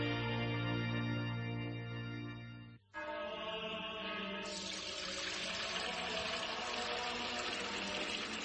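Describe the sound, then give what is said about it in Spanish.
Fuente Umbría spring water pours steadily into a container, a ringing, tonal trickle that briefly cuts off, then resumes as a fuller, splashier gush that continues to the end with no talking. “Hermano Pedro, es que no nos quedaba agua bendita. Agua pura de manantial Fuente Umbría.”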